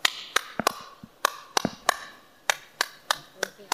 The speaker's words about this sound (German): Wenn ich jetzt mir überlege, ich überlege mir jetzt einen Song und ich klatsche den. So.